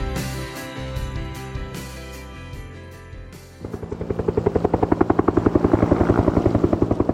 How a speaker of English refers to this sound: the sound of helicopter there over Oso, Washington, and the huge of Saturday's enormous mudslide.